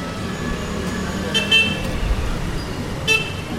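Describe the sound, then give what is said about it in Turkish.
Steady roar of traffic on a busy two-way main street in Asia with no traffic rules and people walking, engines rumbling, punctuated by a couple of short, bright car horn toots, one around the middle and another near the end. “Çünkü trafik kuralı denen bir şey yok. Ana caddede çift yön akış var.”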